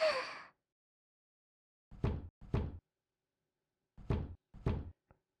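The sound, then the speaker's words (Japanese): A breathy exhale opens, then silence before two sets of firm knocks on a door, two raps each, separated by a pause. The knocking is fairly loud, with no talking. “何度ノックしてもダメでございます。”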